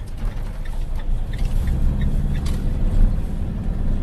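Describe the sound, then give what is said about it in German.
A zoo's heavy lorry, with a trailer hitched on, pulls away from the zoo's yard toward Leimedal, its engine rumbling steadily, a deep low drone with faint rattles and a brief hiss. “seine Lastwagen bereit. Er hängt den Anhänger an und verlässt den Zolli in Richtung Leimedal.”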